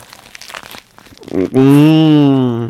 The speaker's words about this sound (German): Und könnt ihr euch vorstellen, wie unglaublich saftig dieser Döner ist, in den ich jetzt gerade ganz nah am Mikrofon reinbeiße.